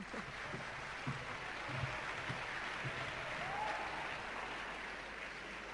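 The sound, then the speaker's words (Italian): Steady audience applause welcomes a high school student from Palermo invited to speak, filling the whole stretch with a dense, even wash of many hands clapping at a moderate level, with a few faint low murmurs from the crowd underneath. “Accogliamola con un applauso.”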